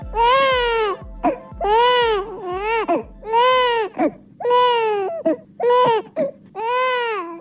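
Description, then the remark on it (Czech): A baby in Bosnia and Herzegovina cries in a series of about seven loud, rising-and-falling wails with brief gasping breaks between them, high-pitched and strained, with no talking. “Ovaj zvuk plača bebe u Bosni i Hercegovini, sve se slabije čuje.”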